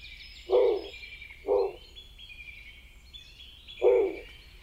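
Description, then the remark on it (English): Three short, harsh, growling snowy owl calls, two close together and one after a pause, loud over a steady chorus of high, thin songbird twittering in the background. “let's listen to what a snowy sounds like”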